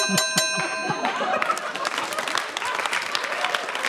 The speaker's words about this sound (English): I wish that bell would just go off in my house every so often, also for no good reason. Yeah, just to break you out of a train of thought.